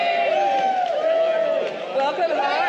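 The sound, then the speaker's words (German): A dense crowd in the arrivals hall of Sydney airport cheers and shouts continuously, welcoming arriving passengers and the crew of a plane from Los Angeles, a loud wash of overlapping voices with a sustained high-pitched whoop riding over it throughout. “Die Crew der Maschine aus Los Angeles wird mit wildem Beifall begrüßt.”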